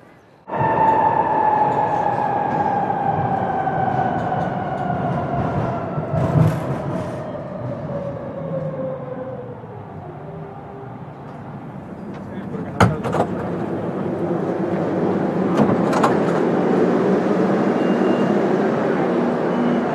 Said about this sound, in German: Das war die Fahrt mit der U-Bahn.